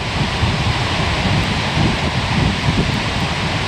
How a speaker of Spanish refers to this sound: Y el tercer sitio sería la catarata Gullfoss, que junto con los dos anteriores es esta trilogía de lugares geológicos. Mira cómo suena el agua cayendo.